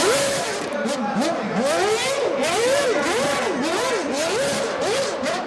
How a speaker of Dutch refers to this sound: Er was een launch event door Red Bull Racing en Mercedes Formule 1 team. Max Verstappen was er niet bij. Maar Perez wel. En die ging even met zijn V8. Vroeger hadden ze V8's nog. Ging even de strip op met de auto.